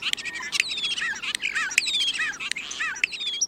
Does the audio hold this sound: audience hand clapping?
no